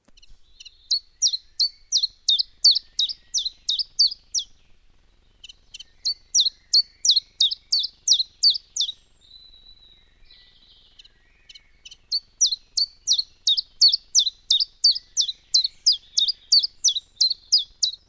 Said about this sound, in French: Pouillo véloce, 10 cm. Petit oiseau gris vert, le pouillo volette inlassablement de branche en branche, chassant insectes et araignées.